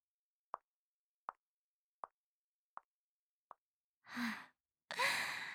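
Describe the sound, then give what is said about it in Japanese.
Five evenly paced footsteps tap by outside a toilet, passing without coming in, short dull knocks that grow slightly fainter toward the end, followed by two breathy exhalations or sighs. “ほら、足音が近づいてきましたよ。”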